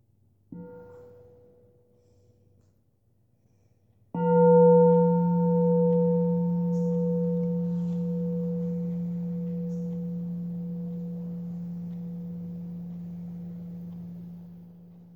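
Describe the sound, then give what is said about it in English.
Two strikes of a deep, resonant bell: a short soft tap, then a strong ring whose steady low hum and bright overtones sustain and slowly fade over about ten seconds, with no voices. “Why don't we listen to a sound of the bell?”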